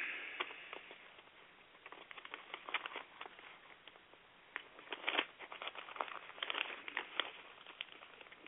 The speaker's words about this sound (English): Still turning pages. Hold on a second.